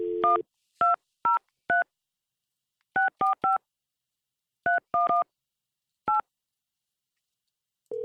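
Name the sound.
telephone keypad dialing tones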